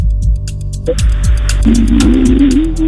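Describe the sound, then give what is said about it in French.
A car engine struggles and sputters, its low throbbing rumble uneven before a strained, rising whine takes over, loud with no voices. “Tu fais genre ta voiture, elle a un souci, alors qu'en fait, non.”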